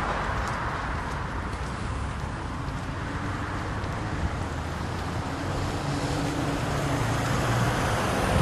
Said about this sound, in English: What about that car that just went by?